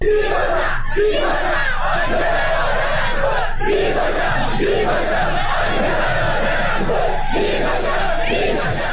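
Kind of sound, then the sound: crowd, protesters chanting slogans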